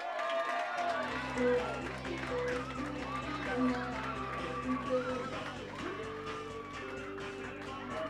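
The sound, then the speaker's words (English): An audience claps and cheers steadily for about eight seconds for Scariff goalkeeper William Kavanagh, a dense wash of applause with mingled voices, while a sustained low droning tone joins underneath after the first second. “A big cheer for William Kavanagh.”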